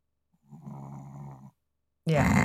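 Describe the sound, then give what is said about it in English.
A man's snoring picked up on a microphone: a single low, rattling snore lasting about a second, fairly soft, followed after a brief pause by a louder, harsher breath or snort that cuts off at the end. “I wonder if his snoring is picking up on the mic.”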